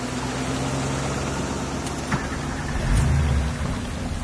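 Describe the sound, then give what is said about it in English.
A car's engine rumbles steadily as it is driven along a road with floodwater ahead, nearly buried under the constant hiss of heavy rain, with the low drone swelling slightly near the end. No one speaks. “I drove until I met another car which was blocking the road.”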